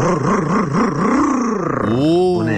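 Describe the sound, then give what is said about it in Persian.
A tuned, power-boosted car engine revs with a rough, wavering growl, then its pitch climbs sharply in rising sweeps as the throttle opens up toward the end. “قربونت، موتور تقویت کردم ببین چیکار میکنه.”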